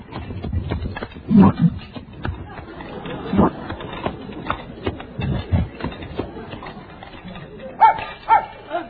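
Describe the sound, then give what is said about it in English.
A dog greedily gobbles food from a refrigerator, with a rapid, uneven series of loud chomping, snorting and growling bursts over several seconds and a couple of sharper yelps near the end. “He cleaned out the refrigerator.”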